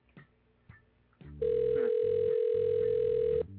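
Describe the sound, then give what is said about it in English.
A telephone call to the CBS headquarters main number rings with one loud, steady electronic tone that holds for about two seconds, preceded by a few brief, faint sounds and murmurs. “Mother, pick up the phone.”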